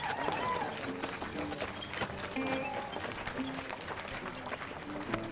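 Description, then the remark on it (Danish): A crowd of townspeople gathered at a gallows rises and claps and cheers as the sheriff arrives with the condemned in a wagon, a steady, loud, dense wash of hand claps with scattered shouts rising above it, continuing without pause from start to finish. “Og i det øjeblik, jeg ankommer med sheriffen Forrest og den dømte Eva i vognen, rejser alle sig op og udløser et bifald af klap og ro.”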